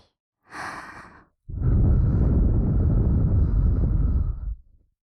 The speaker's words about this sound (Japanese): いいですか。ほらほら、まずは一文字目。 ここで吐息、 吹きかけ攻撃。